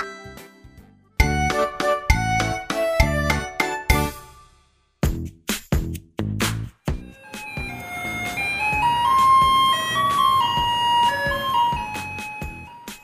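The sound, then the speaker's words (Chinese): An approaching garbage truck's tinkling jingle melody plays loudly from afar, its bright chime-like notes in quick bursts before a sustained tune swells over a low rumble. No one speaks. “小克听到后开心大喊： 爸爸，爸爸，垃圾车来了！”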